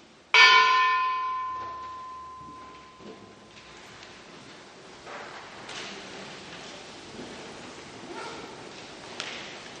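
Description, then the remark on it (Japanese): A single large church bell is struck once in prayer for those who lost loved ones to the atomic bomb and war, ringing out loud and clear with a long, humming decay that fades slowly under faint outdoor background noise and a dog barking. “愛するものを失ったすべての人の上に主の慰めと平安があるように祈りつつ鐘をつきます。”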